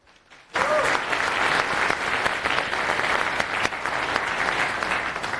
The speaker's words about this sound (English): Round of applause.